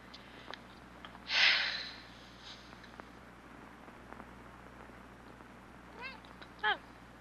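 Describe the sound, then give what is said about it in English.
A cat gives two short meows close together near the end, following a brief loud rushing burst earlier, against a quiet background with a low steady hum. “Hello, cat.”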